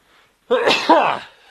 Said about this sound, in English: Bless you. Yes, I haven't had a sneeze on the show for some time.